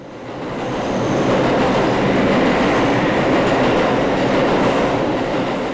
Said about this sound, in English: The subway, while brutally efficient, is also brutally noisy.